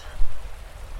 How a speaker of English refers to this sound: The river.